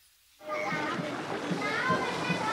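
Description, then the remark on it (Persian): Children's voices and playful shouts over steady splashing and churning water outdoors in alleys flooded by the risen sea level, starting abruptly after a brief quiet moment and continuing busily throughout. “اینجا در این کوچه ها سیل نیامده، بلکه سطح آب دریا بالا آمده و مردم هم به آن عادت کرده اند.”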